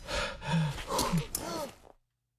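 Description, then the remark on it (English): Several voices let out a sudden, breathy collective gasp on hearing that Mark was dead, rising and falling over about two seconds before cutting to silence; moderately loud. “Did you hear the gasp from everyone when they heard that Mark was dead?”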